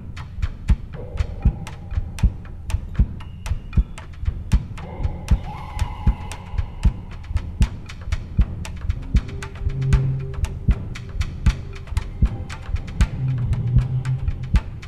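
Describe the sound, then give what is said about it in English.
A heartbeat thumps steadily throughout, a fast, regular run of dull, heavy low beats with sharp onsets, over a soft background hum. There is no talking. “You can just feel the thump, thump, thump, thump?”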